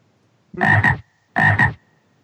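A frog croaks twice, each call a loud, raspy double-pulsed burst with a brief pause between them, heard alone without any talking.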